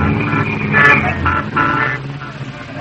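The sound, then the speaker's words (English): Taxi cab horns honk in heavy evening traffic on Broadway near Times Square, New York, during a cab ride to the theater, several short blaring toots in quick succession over a steady low rumble of engines, loud and continuous through the whole stretch. “I know the traffic will be heavy, so I suggest we start right off to the theater. My cab is waiting.”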